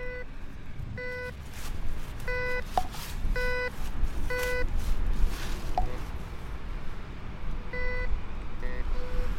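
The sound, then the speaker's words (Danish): A metal detector used at dusk in Germany beeps in short, evenly spaced electronic tones, grouped in bursts of two or three, over steady outdoor background noise with occasional rustling and faint clicks. “Aften er ved at falde på, så vi kan skjule os i mørket, mens vi bipper rundt.”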